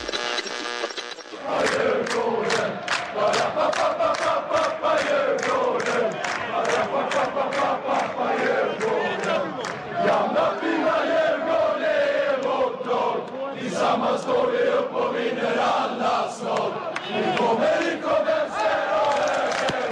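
A large crowd of supporters of the Swedish football club Djurgårdens loudly chants a Brazilian funk carioca song in unison, with steady rhythmic claps or beats driving the chant; it bursts in after a brief silence and carries on throughout.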